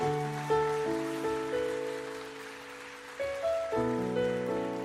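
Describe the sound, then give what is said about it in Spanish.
A church audience applauds to welcome newly baptized people, a steady, dense wash of clapping, with sustained organ-like chords changing underneath. No one speaks. “le damos la más cordial bienvenida a estas personas que han sido bautizadas y lo hacemos otra vez con un gran aplauso, ¿verdad?”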